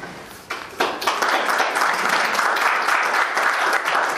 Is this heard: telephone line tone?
no